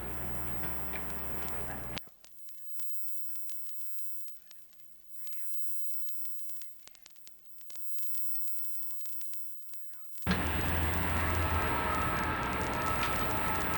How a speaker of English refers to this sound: Where were you just telling me that train was coming from? Louisville, Kentucky. Have you ever been to Louisville? No, I haven't. How often does that train come back? It goes down or up, one or the other, each time a day.